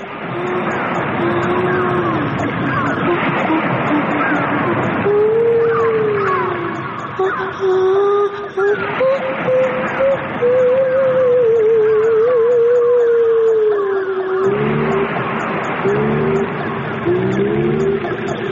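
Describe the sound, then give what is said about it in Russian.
A dense radio-art collage of cat, whale and dolphin sounds: long, sliding whale-like moans and meow-like glides weave over a thick, hissing bed, ending with a run of short repeated cries. No one speaks. “С тех пор космос заселен котиками, китиками и дельфинами.”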